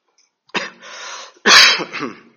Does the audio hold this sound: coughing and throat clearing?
yes